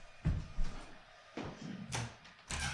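A window is pulled shut, a series of knocks and a brief sliding scrape ending in a firm latching clunk, with no one talking.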